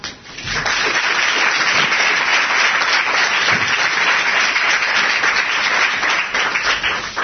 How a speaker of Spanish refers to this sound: Pues así, con esos aplausos, finalizó la conferencia inaugural de Fran Ezquiza.